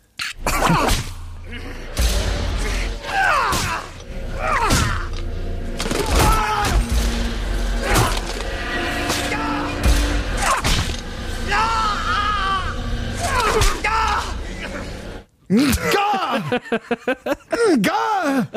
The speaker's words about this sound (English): But no, this is from … again. Sure. So this is Tony Blair being flagellated and some extraordinary grunting going on from the flagellator and the flagellee.